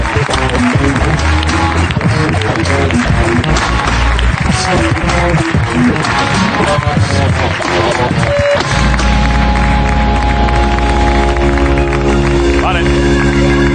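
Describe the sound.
Dense, loud applause from an audience with some voices mixed in fills the first eight seconds, then gives way to sustained, steady music.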